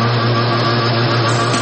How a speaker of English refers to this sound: How about throttle up, open her up, and cruise through the waters?